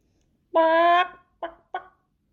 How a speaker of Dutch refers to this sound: Tevreden wandelt kip Lizzie door de tuin.